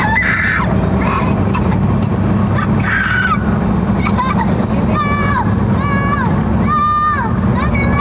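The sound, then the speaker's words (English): A five-year-old boy, abandoned by human smugglers near El Paso at the southern border and clutching his teddy bear, cries and screams 'Please don't leave me' in repeated high, wavering wails, heard over a steady roar of wind or engine noise that nearly buries the quieter sobs. “It shows a crying five-year-old boy abandoned by human smugglers near El Paso.”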